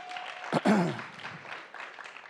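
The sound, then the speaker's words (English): A church audience at Northside Church of Richmond applauds steadily, a dense wash of many hands clapping, with a brief loud whoop or cheer rising out of the crowd early on before the clapping continues evenly. “Would you clap your hands for her?”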